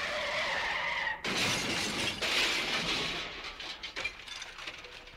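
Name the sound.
car crash sound effect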